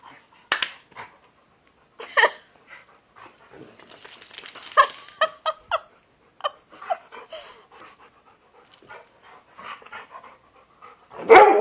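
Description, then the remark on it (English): A dog pants in quick, breathy bursts that come in irregular clusters, with short pauses between them and a sharper, louder huff right at the end. “Whoa, you're a drool factory. I just got sprayed by... Because he drank 10 gallons of water.”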